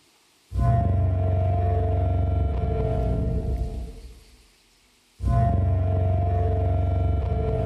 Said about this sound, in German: Vorsicht, wird noch lauter. Also das ist die Simulation dieser Töne. Oder vielmehr der ganzen Spanne von Tönen, die da möglicherweise bei rausgekommen sind. Also so irgendwas zwischen einer Posaune und einem Nebelhorn.